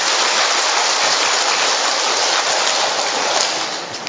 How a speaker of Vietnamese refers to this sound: Trong tinh thần hiệp thông, chúng ta đốt một tràng pháo tay thật to để chúc mừng những bổn mạng đấy. Một tràng pháo tay to nữa lên.